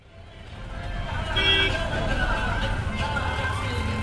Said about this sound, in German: Nachmittags in Ahmedabad. Auf der Drive-In-Road staut sich der Verkehr unter den Betonstelzen, auf denen irgendwann einmal Metrozüge fahren sollen, links und rechts Hochhäuser.